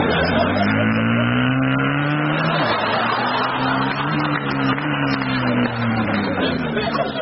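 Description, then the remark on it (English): A performer on the radio comedy Dead Ringers imitates a motorbike engine, a loud, buzzing rev whose pitch rises and falls steadily for several seconds, continuous with no other talk. “Sorry, I think I just turned into a motorbike then.”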